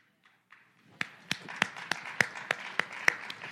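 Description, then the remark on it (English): A church audience claps along during a sermon in a steady rhythm, sharp regular claps standing out over a softer wash of scattered clapping. A few faint claps start it, then it builds and stays moderately loud. “I don't see some of you clapping.”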